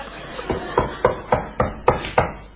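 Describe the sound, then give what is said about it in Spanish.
Someone knocks on an office door at a police station seven times in a steady, even rhythm, each rap a sharp, hollow thud of about equal loudness, with no voices. “Estoy golpeando la puerta.”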